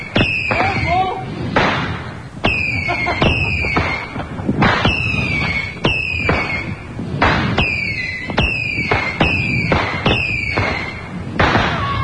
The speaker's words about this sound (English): was standing directly over the fireworks.